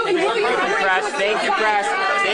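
A crowd of reporters shouting questions over one another as Trump and Putin arrive at their meeting room, a dense, loud wall of overlapping voices with no single speaker standing out.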